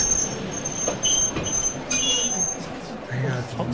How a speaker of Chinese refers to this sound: 火车开到一个高寒地带，忽然抛锚。